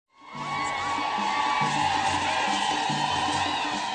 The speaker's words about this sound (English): You're hearing there an ecstatic crowd in Tanzania welcoming President Barack Obama and First Lady Michelle Obama to their country, the final leg of the president's Africa trip